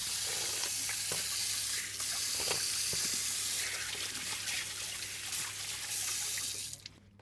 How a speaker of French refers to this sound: Voilà, ah, de l'eau chaude. Trop chaude. L'eau est trop chaude. Donc on va faire de l'eau un peu tiède.